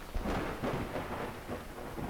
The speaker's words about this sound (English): Yeah, the storm woke me up too. It sounds like it's really coming down out there.